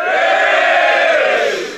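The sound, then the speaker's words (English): A loud, sustained cheer from an audience welcoming golfers Peter Laurie and Des Smith, a dense wash of many voices shouting and whooping together that holds steady before easing off slightly at the end. “We've got Peter Laurie and Des Smith here, so that deserves a cheer too.”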